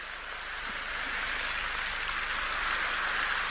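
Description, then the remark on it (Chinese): An audience applauds in a dense, continuous wash of clapping that swells slightly louder as it goes on, with no voices over it. “很开心啊，我听到你们的掌声很开心”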